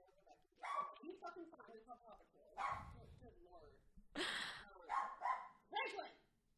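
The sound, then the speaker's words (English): A dog barks and yips in a quick, irregular string of about eight sharp, loud bursts, with brief pauses between them. “Hey, speaking of dogs.”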